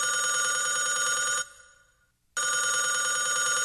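A loud telephone bell rings with a bright, metallic trill, stops briefly and fades, then starts ringing again. No voices accompany it.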